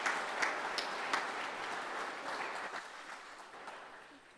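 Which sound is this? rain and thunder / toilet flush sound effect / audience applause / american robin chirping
audience applause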